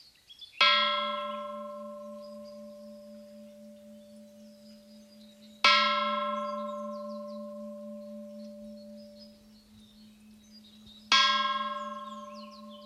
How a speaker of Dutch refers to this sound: Wat trilt dat lang na? Ja, dat is mooi aan zo'n grote klok.